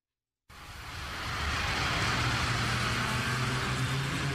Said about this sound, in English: Listen to the rev of the engine.